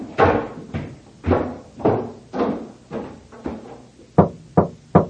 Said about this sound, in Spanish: Ahora suben al segundo piso y llaman a una puerta que queda al fondo del corredor.